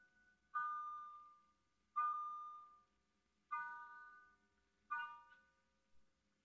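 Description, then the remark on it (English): A clock strikes five o'clock with resonant, bell-like chimes spaced evenly about one and a half seconds apart, each ringing out and slowly fading before the next, with no voices. “Doctor, listen. 5 o'clock.”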